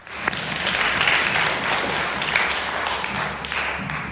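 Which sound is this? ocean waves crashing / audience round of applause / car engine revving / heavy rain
audience round of applause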